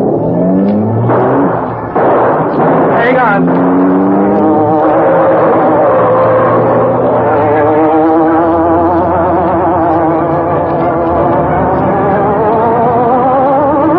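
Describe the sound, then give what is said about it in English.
A car engine revs hard and climbs in pitch as it accelerates through city streets, with wavering tire squeals as it skids through sharp turns, loud throughout. A man briefly speaks at the start. “There was no escape from the careening car that dashed through city streets, skidding through sharp turns.”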